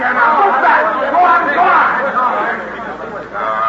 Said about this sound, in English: There's going to be trouble, Sheriff. We can't hold this crowd much longer. They all want to get a glimpse of Roy Earl.